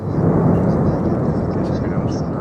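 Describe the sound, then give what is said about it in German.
A volcano in the southwest of La Palma erupting and spewing fountains of fire, with a loud, continuous roar, its deep rumbling steady throughout with a hissing, rushing layer on top and no clear breaks or separate bursts. “Es ist eine Mischung aus Grollen und Rauschen, die seit gestern Nachmittag auf La Palma zu hören ist und von spanischen Medien als Livestream im Netz übertragen wird.”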